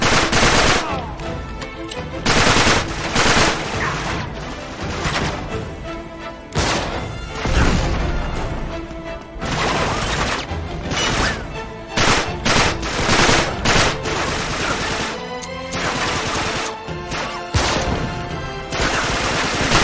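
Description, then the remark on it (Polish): Sustained bursts of machine gun fire rattle through the whole stretch, loud and dense, with rapid overlapping shots and occasional heavy crashes between volleys. “Kurczę, nie mam już tych naboi. Czy są tu gdzieś naboje?”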